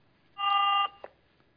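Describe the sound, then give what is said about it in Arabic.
A single steady electronic beep from a phone line as a caller's call from Algeria to a call-in program disconnects, lasting about half a second, followed by a soft click and near silence, with no one speaking. “طيب معنا وسام، انقطع الاتصال أيضا”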